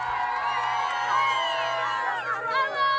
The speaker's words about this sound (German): Dann aber kam der Abend und dann sagt die Hamas plötzlich, sie habe einem Vorschlag für eine Waffenruhe zugestimmt. Das sorgte sogleich für Jubel im Gazastreifen.